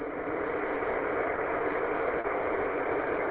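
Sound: car engine running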